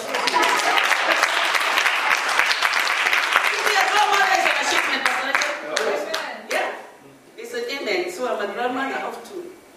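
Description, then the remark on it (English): An audience claps loudly in a dense, steady patter of many hands for several seconds, then the applause thins out as voices and cheers rise over the last few claps. “Just clap for me.”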